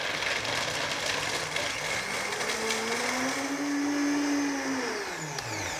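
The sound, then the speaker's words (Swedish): A blender runs steadily for several seconds, its loud motor whirring with a pitch that rises slightly and then drops as it mixes a sauce with about three teaspoons of salt added, with no talking. “Så att här tar vi ungefär typ 3 teskedar salt. Så mixar vi.”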